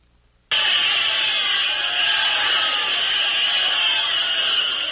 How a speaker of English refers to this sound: This is Observer One on the roof of UN headquarters in New York. A cheering, shouting throng is voicing its enthusiasm for the dramatic efficiency with which the first gunless, bloodless, and creative blitz in the history of the world is taking place